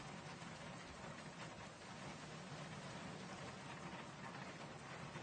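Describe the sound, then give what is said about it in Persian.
Steady rain of the kind called varesh in Persian, distinct from ordinary rain, falls throughout, a dense, even hiss of drops pattering on a surface with a low rumbling undertone, continuous with no voices. “بله این وارشه، با بارون فرق میکنه.”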